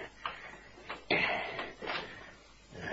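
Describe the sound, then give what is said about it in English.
A heavy security door is opened with keys and handled: a few metallic clunks, then a loud thud followed by a sustained scraping rumble as it moves, with more knocks trailing off. “Here's the first security door. Give me those keys.”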